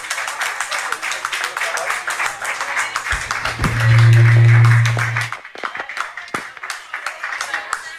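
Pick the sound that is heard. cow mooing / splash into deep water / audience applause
audience applause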